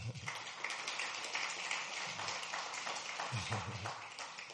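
An audience claps their hands in a dense, steady burst of applause that holds for several seconds, with faint voices murmuring underneath.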